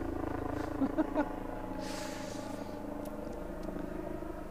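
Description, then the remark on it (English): A helicopter drones overhead: a steady, low, rumbling engine hum with layered tones holding an even loudness throughout, broken only by a few faint knocks early on. “We'll wait for the helicopter to go over.”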